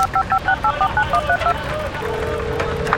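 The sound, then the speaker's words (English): A quick run of about ten dual-tone beeps from the keypad of a small cell phone being dialed, followed by a steady low electronic tone as the call connects, with faint background hum. “Took slid the small cell phone from his pocket.”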